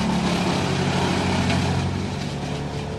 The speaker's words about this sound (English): Chainsaws, chippers, and heavy equipment tearing out trees and brush all along one side of the popular path. The side directly under the high-voltage power lines that feed the area's need for electricity.